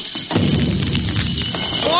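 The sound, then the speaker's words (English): A staged thunderstorm effect for a pirate scene at sea at night: a steady low rumble with broad hissing noise that swells slightly toward the end, scattered with brief metallic clanks. “What's that clanking? You never heard of chain lightning?”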